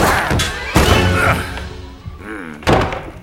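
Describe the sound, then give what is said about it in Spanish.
Heavy wooden thunks and slams as Vikings batter and break through a village palisade at night, three loud impacts with splintering crashes and a sustained rumble in between, no voices. “Los vikingos rompen la empalizada y entran en las chozas del poblado.”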